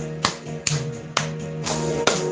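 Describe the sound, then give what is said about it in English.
Sharp hand claps land in a steady rhythm, about five in a row, over a sustained musical drone with no talking; people clap their hands to praise God during worship. “Let us clap our hands and praise Him.”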